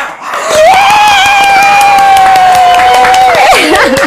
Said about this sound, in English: So ladies and gentlemen, without further ado, put your hands together.